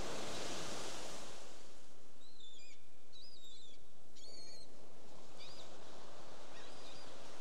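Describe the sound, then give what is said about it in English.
Steady ocean surf rolls and washes onto the shore in a broad, continuous hiss, while a few birds chirp faintly above it in short, scattered calls. “We can also notice that the pause is present in the waves, the sound that you're receiving in addition to my voice.”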